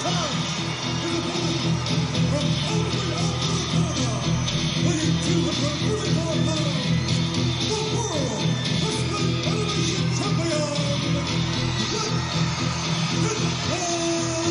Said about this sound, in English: And this crowd on their feet, ladies and gentlemen, this is personal. Between these two.